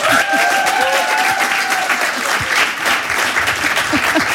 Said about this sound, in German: Rasten Sie aus und beschenken Sie ihn mit einem tosenden Applaus, ob er will oder nicht.